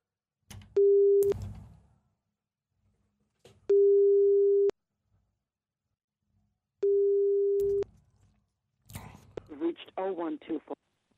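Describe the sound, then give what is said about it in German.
A telephone ringback tone of an outgoing call from a radio station in Cologne, Germany, to England sounds three times, each a steady one-second beep separated by pauses of a few seconds, before a voice briefly answers at the end. “Ich hoffe, sie geht jetzt ans Telefon.”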